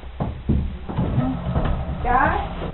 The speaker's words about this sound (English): Just got a pull a chair, but you can sit over here, buddy. Okay. And you can pull that chair up over here.